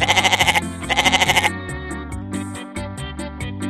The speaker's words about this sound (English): I am a goat.